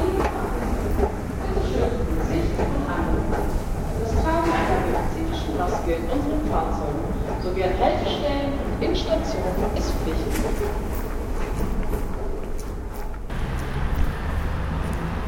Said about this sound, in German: Laut rumpelt die Straßenbahn an mir vorbei. Auf der Anzeigetafel steht die Linie 2.